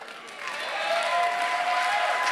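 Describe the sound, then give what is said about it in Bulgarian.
An audience applauding during a sermon: dense, steady clapping that swells after the first half second and holds loud and even, with a faint sustained tone running underneath. “О, ако ръкопляскаш, ръкопляскаш, че.”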